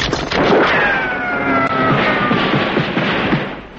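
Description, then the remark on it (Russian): A car engine catches on the first try and revs hard, its roaring whine rising and falling over a few seconds, loud and continuous with no one talking. “Завелась! А как же? С полоборота!”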